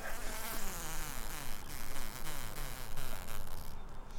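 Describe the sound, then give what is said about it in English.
Male honeybee drones made to buzz during semen harvesting, buzzing steadily and loudly, a dense droning hum with wavering pitch that swells and dips continuously, with no voices. “You make them buzz a whole lot.”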